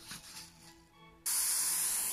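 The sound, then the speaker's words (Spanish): Water is sprayed from a spray bottle onto a person after a haircut trim, in one abrupt, loud burst, a bright, steady hiss that cuts in after a second of faint background noise and holds to the end. “Déjame rociarte un poco de agua.”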